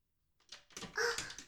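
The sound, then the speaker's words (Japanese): A door swings shut: a couple of soft knocks and rattles lead into a brief, bright creak and a solid closing clunk, with no voices. “本当に扉閉まってます。”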